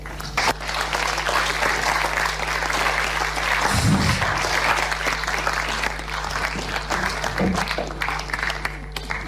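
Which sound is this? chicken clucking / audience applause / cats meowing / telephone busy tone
audience applause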